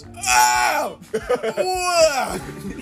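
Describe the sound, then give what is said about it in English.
A man's voice imitates the strained, wavering scream of a paralyzed man in an old folks home: one long bright cry that bends downward, a few choppy grunting bursts, then a second drawn-out wail, loud. “You just it's like the guy in the old folks home who can't move a muscle and he just screams.”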